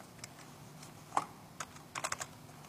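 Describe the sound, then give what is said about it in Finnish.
Scattered keystrokes on a computer keyboard, fairly quiet: a few isolated taps spaced apart, then a quick burst of several keys near the end, with no voices. “Näppäimistö ei tottele.”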